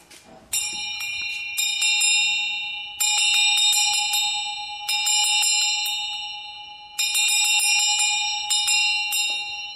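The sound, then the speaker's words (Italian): A handbell, the house's wake-up bell that someone rings every morning at 7 going into each room to wake everyone, rung in repeated bursts of quick, bright clangs, loud and ringing with shimmering high overtones, each flurry trailing into a sustained hum before the next round of shaking. “Questa è la campana. E noi la suoniamo.”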